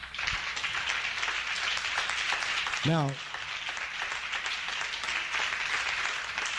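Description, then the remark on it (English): An audience claps steadily, a dense wash of many hands filling the whole clip, while a lone voice briefly calls out over the applause partway through. “Give God a hand clap.”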